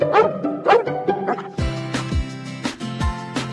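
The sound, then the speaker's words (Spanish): A dog, Luna, who is going to be a mother, barks several times in quick, sharp bursts, then lets out longer, drawn-out yelping cries. Fairly loud, with no one talking. “Me gusta cuidar a mi pela Luna, que va a ser mamá y le va a salir los hijos.”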